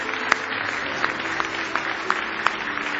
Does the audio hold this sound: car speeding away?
no